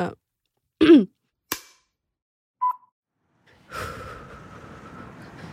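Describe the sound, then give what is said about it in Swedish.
A few sharp gasps and snorts in separate bursts with short pauses between, followed by a longer, rough, noisy stretch of heavy breathing, inside a car in Norberg. “Kanske kan försöka andas lite normalt också, fy fan.”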